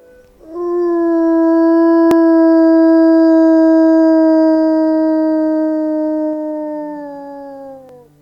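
A single long wolf howl, steady and loud, holding one mournful pitch for about seven seconds before sliding slightly downward and fading. No voices accompany it.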